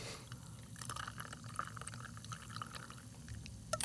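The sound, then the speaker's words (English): A cocktail made with cilantro and jalapeno is poured over ice, a steady stream of liquid with small clinks and crackles of ice scattered through it, no talking. “And then put it over ice for you.”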